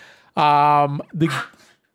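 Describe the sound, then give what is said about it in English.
A dog lets out a loud, drawn-out bark, followed by a second, shorter, rougher bark, with nothing else in the background. “Be quiet, dog.”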